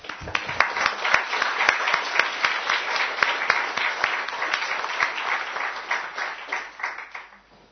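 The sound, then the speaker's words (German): An audience applauds steadily for several seconds to welcome a speaker before his lecture, a dense patter of many hands clapping at once that holds fairly level before thinning out and fading at the end. “wir können ihm, bevor er beginnt, ihm auch noch damit einen kleinen Applaus ihn begrüßen.”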